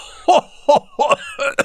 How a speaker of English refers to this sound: He began again and started coughing.